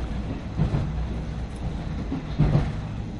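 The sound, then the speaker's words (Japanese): Steady low rumble of a moving 12-car JR East train heard from inside a car, heading to Kanita, with rhythmic clattering over the rails and two stronger clunks about two seconds apart. No voices. “列車12両で運転です。”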